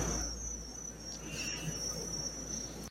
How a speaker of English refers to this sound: And then the crickets chirping in the background, real crickets.